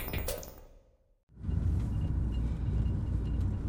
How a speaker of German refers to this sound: Zum Felslabor fährt man mit dem Auto durch einen Tunnel parallel zum Autobahntunnel ins Innere des Berges, des Mont Terry. Sie sehen, wir fahren jetzt durch eine kalkreiche Formation, eine verkarstete Formation.